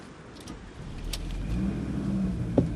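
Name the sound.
car driving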